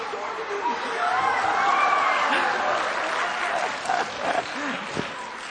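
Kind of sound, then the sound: crowd, audience cheering and applauding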